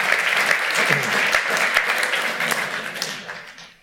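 An audience breaks into steady applause, many hands clapping in a dense, crackling wash that holds loud for about three seconds before tapering off.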